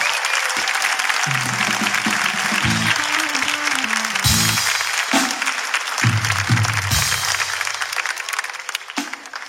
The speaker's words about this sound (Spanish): Un aplauso, por favor. Aquí.